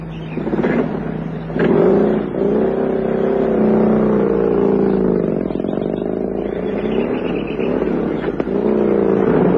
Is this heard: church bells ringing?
no